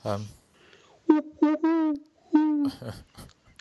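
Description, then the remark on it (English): A person imitates an owl, voicing a short series of hooting calls: two quick hoots, a longer drawn-out one, then another long hoot, followed by brief breathy noise. “Do you get an owl too?”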